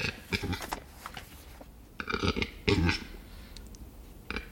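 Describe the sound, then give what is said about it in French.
A western capercaillie's display call: a run of dry clicks and knocks that builds into short bursts of harsh, gurgling grating sounds, with no voices and only a faint outdoor background. “C'est typique de la parade de l'oiseau forêt. J'ai nommé le grand tétras, plus gros oiseau forestier en Europe.”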